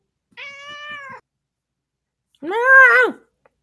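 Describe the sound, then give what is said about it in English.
A female cat lets out two drawn-out, complaining meows, the second louder and more strained, with a short silent pause between them and no talking. “She sounds angry, dude. She's annoyed because I'm in her spot.”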